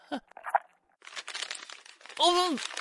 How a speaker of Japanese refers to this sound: なんでいきなり紙袋か。これなんでこんなもんかぶせてきてるんだよ。